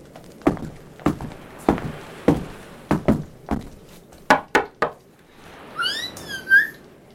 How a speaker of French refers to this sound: Il la rend dans sa ceinture et il va toquer à la porte de son maître d'armes